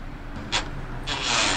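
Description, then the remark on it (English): A bus pulling up in the video game Homer on a Harley: a steady low engine rumble, a short burst of air hiss, then a longer, louder hiss like air brakes releasing. No one speaks. “Sounds like a bus is pulling up.”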